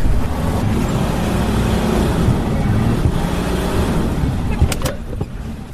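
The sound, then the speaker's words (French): A car engine roars steadily with dense low rumble and rattling as the car speeds at night in pitch darkness, bouncing along an increasingly rough track, with a few sharp clanks and bumps near the end. “Alors on démarre, il fait nuit noire, la voiture fonce, rebondit sur un chemin de plus en plus chaotique.”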